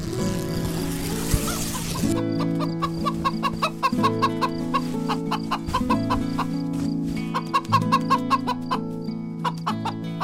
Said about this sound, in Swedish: Ljud igen. Ett hasande och hackande från någon utanför. Det är bara hönan som vill komma in, säger Bubblan. Hönan vill nog inte sova ensam på sin pinne.